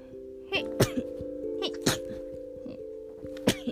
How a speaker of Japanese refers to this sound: あ、ダメだ、くしゃみが出る。